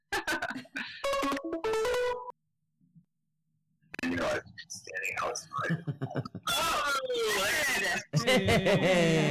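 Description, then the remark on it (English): A computer's incoming-call ringtone plays a short, stepped electronic melody for about two seconds, then falls silent before muffled voices and noisy, crackly sounds take over. “You're getting a phone call on your computer.”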